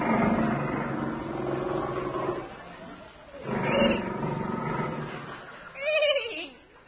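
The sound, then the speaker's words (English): A man-eating tiger roars loudly in a few long, rasping bursts, the last one ending in a higher, whining snarl, with no talking around it. “What was that noise, my captain? A man-eating tiger.”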